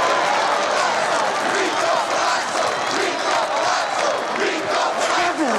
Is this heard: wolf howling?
no